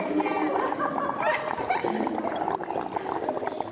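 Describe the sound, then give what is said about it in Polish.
Steady, moderately loud bubbling and gurgling as exhaled carbon dioxide is blown through a straw into water in a vessel during a school experiment, a continuous churning burble lasting several seconds with no speech. “Dmuchać do rurki, tak? I co się robi? Robi się bańki.”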